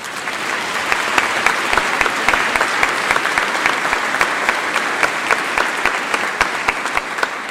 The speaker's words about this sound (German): Da darf man mal klatschen.